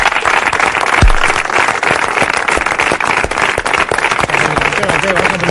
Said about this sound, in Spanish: ahí estaban los aplausos de los compañeros de Óscar de Marcos al jugador rojiblanco cuando les anunciaba su despedida